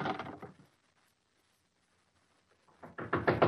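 Loud, rapid knocking on a door in two bursts, a flurry of heavy raps, then a pause of near silence before another forceful round of pounding.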